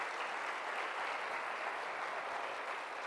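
Steady applause from an audience, a dense wash of many hands clapping at once, sustained and even throughout with no voices standing out.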